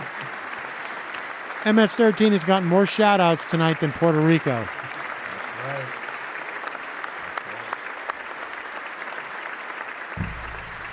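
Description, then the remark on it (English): Steady applause for Trump crackles throughout, a dense wash of clapping that continues under a man's speech early on and then carries on alone at an even level. “Trump's claps are the worst metronome ever.”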